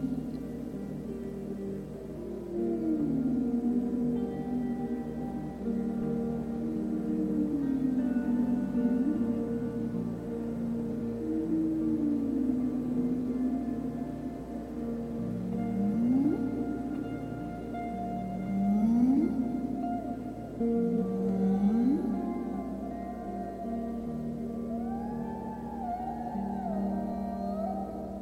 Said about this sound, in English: As you listen, you turn your attention to other humpbacks singing. At first, they sound like your own echo because they are singing the same song as you. Some are close by, 100 feet away, a few hundred feet away.